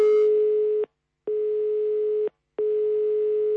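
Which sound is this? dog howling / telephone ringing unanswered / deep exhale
telephone ringing unanswered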